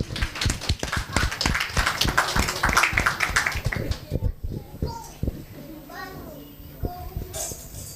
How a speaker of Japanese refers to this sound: では拍手で送り出しましょう。